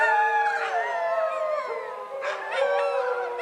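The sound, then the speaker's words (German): A dingo howls in long, wavering tones that rise and fall, with overlapping voices suggesting more than one animal. The howling is steady, with no talking. “Der Dingo wird seit der Ankunft der Europäer in Australien erbittert gejagt.”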